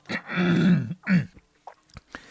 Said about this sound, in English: Sorry. While I clear my throat.